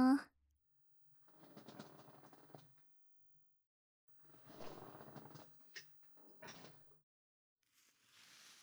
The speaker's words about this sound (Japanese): じゃあまた椅子の方動くよ